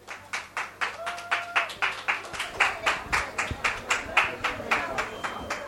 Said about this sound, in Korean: 이스트우드 한인상호회 여러분 무대로 올라와 주시죠. 여러분 박수로 함께 해주십시오.